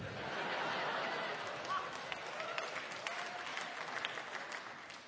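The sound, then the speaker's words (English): Steady audience applause fills the whole stretch, a dense wash of clapping hands that stays fairly loud throughout, with scattered sharper claps and faint crowd murmur underneath. “Please hold your applause. No, please don't hold your applause.”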